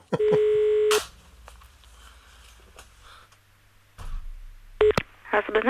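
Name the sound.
telephone dialing tones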